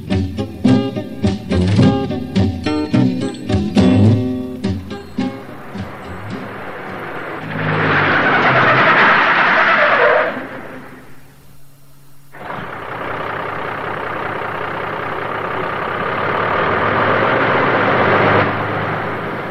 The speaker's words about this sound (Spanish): Creo que ya regresó mi tío. Acabo de oír el camión.